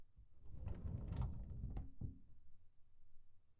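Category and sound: household object, door being closed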